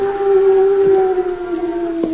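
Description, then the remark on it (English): A fake hoot owl call on a cloudy night in a valley where cowhands guard a herd of longhorns: a single long, steady hooting tone, mid-low and slightly falling in pitch, held for about two seconds with no talking. “That's a phony owl if I ever heard one.”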